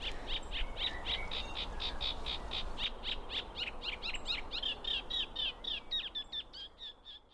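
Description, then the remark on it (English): A reed or sedge warbler sings a steady run of rapid, scratchy chattering notes for several seconds over a low background rumble of wind or other noise. “the reed warblers are a little bit more scratchy in sound, whereas the sedge warblers are a little bit more musical”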